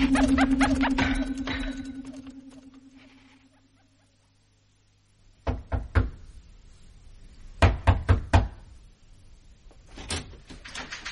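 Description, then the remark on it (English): A low humming drone fades out, then sharp raps on a door arrive in short bursts: three knocks, a pause, four more, then a couple of final knocks, fairly loud. “Why can't you young people learn to knock? But I did.”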